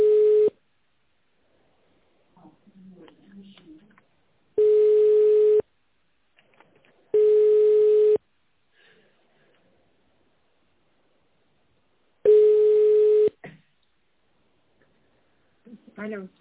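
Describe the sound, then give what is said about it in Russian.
A phone's ringback tone while calling a company about a tender: four steady one-second beeps of the same mid-low pitch, separated by pauses of a few seconds, with faint shuffling sounds in the gaps. “Звоню в компанию.”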